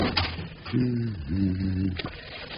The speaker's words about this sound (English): And close the door after you